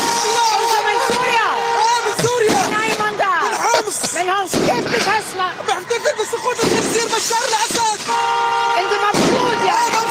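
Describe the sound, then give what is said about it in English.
A street celebration: car horns honk and blare nonstop while many fireworks crack and pop throughout, all loud, over a constant din of cheering, shouting crowd voices including children. “A lot of fireworks as well.”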